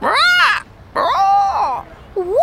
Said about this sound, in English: This is my bird.